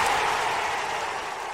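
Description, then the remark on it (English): A crowd cheers and applauds, a dense, steady wash of clapping and roaring voices that stays loud and even throughout the short burst, with no speech over it. “Listen to the crowd.”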